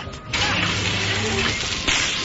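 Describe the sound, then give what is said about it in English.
A sudden loud crash against a carousel's machinery bursts in and keeps going as a harsh, grinding clatter over a low mechanical hum, with a second jolt of impact near the end. “We crashed against the machinery.”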